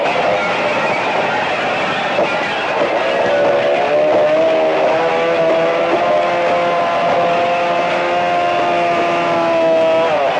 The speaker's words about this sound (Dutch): Aan de andere kant gaat op dit moment de cirkelzaag de deur in. De politie begon er net direct al te zagen en te timmeren.